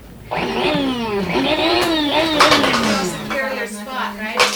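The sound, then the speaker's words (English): A voice imitates a coffee maker running, with a loud, continuous whirring and gurgling hum that slides up and down in pitch for about four seconds, ending in sputtering bursts. “Yeah, my parents, the coffee connoisseurs. I was a coffee maker.”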